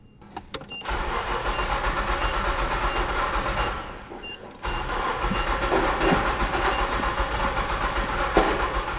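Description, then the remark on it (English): A truck engine cranks over with a steady, rough churning as the key is turned after a new fuel pump was fitted, drops off briefly, then catches and keeps running with a loud, rumbling idle. No one speaks. “Then the truck turned over and roared to life.”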